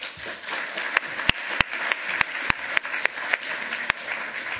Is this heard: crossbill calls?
no